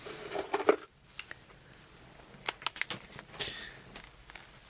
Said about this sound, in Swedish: Då vecklar vi upp papperslappen. Noggrant uppvikt var den.